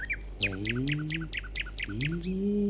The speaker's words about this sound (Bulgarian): И така, вървели през гората двама глупаци, а на едно дърво, скрит в листата, пее Славей. Ей, приятелю, я поспри и послушай колко хубаво пее за мене този Славей.